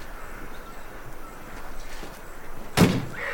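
A car door shuts with one sharp thud near the end, after a few seconds of quiet background rustle and faint movement, as a man gets out of a car that has driven into the courtyard of a house.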